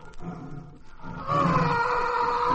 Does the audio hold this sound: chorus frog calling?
no